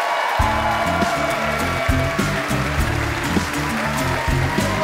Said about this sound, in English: Let's keep this very nice Canadian applause going all the way from New York City. Give it up for Brendan Sagalow, everybody.